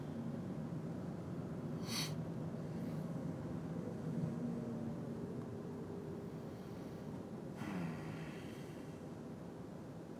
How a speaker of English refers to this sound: Yes, traffic. I'm not really a fan.